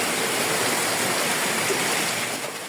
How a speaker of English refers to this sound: Rain poured down in Santiago de Cuba from Melissa.